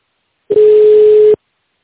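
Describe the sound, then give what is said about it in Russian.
A single steady telephone keypad tone (DTMF) sounds for a little under a second, loud and clean, as a number is dialed on a phone in tone mode, with silence before and after and no voices. “Если вы знаете внутренний номер сотрудника, переведите ваш телефон в тональный режим и наберите номер, либо оставайтесь на линии.”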